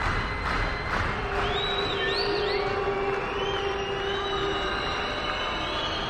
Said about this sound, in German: So ein Buh-Konzert ist natürlich weniger schön für die, die auf der Bühne stehen. Publikumsmusik kann eben so oder so ausfallen.